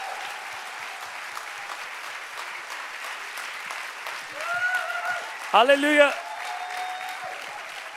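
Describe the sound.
Sustained crowd applause welcoming a guest pastor who is preaching in Switzerland for the first time, a steady wash of clapping throughout, with a few voices calling out and a brief sung or shouted exclamation rising above it near the end.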